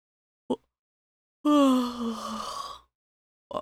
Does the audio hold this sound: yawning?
yes